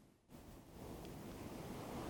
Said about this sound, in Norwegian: Alt du hører nå er bølgene som slår mykt inn på stranden. Hør havet. Bølgene som rytmisk kommer og går.